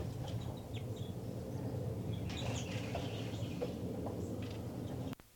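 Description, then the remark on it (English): Several short, high calls from a bird at its nest, calling in response, over a steady low rumble of background noise, scattered irregularly before the sound cuts off abruptly. “5'9", call in response.”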